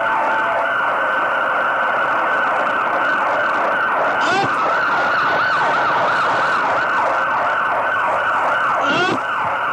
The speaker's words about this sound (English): We got 2 police cars, and we'll blow all the sirens you want.